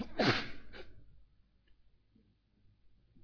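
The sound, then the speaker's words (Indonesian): A single sharp, explosive sneeze with a brief trailing breath afterward, then near silence for the rest of the moment. “Alhamdulillah. Yahdikumullah yuslih malakum.”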